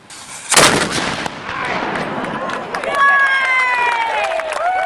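antique cannon firing

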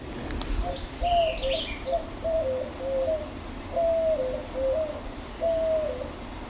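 white-winged dove cooing

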